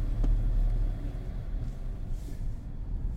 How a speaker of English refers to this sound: So the rental car, the radio on, we're ready.